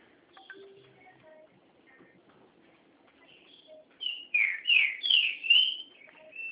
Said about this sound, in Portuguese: Olha o passarinho, é canário? É pichavo.